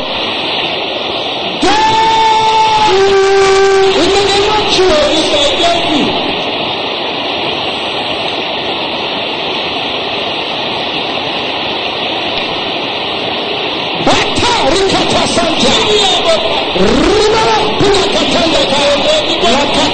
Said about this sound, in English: Can I hear the sister say, "Ready like thunder"? Can I hear the brothers shouting with loud and clear? Let me hear everybody shouting it loud.